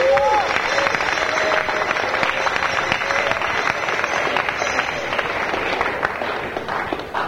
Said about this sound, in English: Also, I'd like to express my gratitude to all the devotees who come from far to make this event possible. Please, everyone, round of applause.